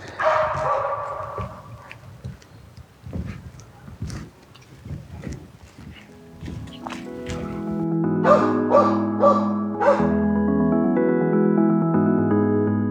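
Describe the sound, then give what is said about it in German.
Dogs bark nearby as two people with dogs approach, a scattered series of short, sharp yaps over the first several seconds, before a sustained chord-like tonal sound with a few plucked notes takes over. “So, nachdem da jetzt gerade wieder zwei mit Hunden kommen, mache ich da mal kurz eine Pause.”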